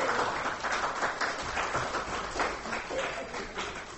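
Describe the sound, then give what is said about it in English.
A crowd claps steadily for several seconds, a dense, sustained patter of many hands that stays fairly loud and even throughout, with no talking over it. “Everybody give him a big round of applause.”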